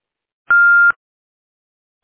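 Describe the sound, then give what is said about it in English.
A single steady answering machine beep, a clear mid-pitched tone lasting under half a second, loud, followed by silence. “Hello, I'm sorry that I missed your call, but if you leave your name and number at the beep, I'd be sure to get back with you as soon as I can.”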